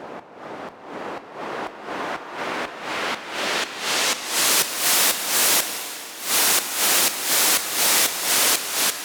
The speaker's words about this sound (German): So, da ist dieser Ausklang schon und du hörst, wie das Rauschen dann so langsam auch mit dem Hall noch im Hall versinkt. Ne? Und das Ganze sorgt dann dafür, dass unser Effekt schon fast fertig klingt.